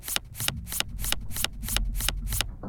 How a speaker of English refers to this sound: Deck of cards. Shuffled. The name of the game is Texas Hold'em.